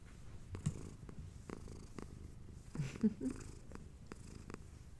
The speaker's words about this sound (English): But here, have a purring cat.